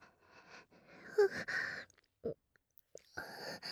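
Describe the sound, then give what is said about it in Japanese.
Soft, wet tongue-licking sounds right at the ear: irregular slurping and smacking bursts mixed with breathy hisses, separated by brief silences. Quiet throughout, with no speech. “耳元でいやらしい音が、チュルチュルルって響いていますわ。”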